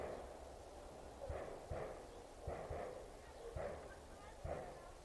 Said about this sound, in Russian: Если вам слышны выстрелы, то это, скорее всего, наши солдаты упражняются в тире. Он тоже где-то вот здесь не очень далеко расположен.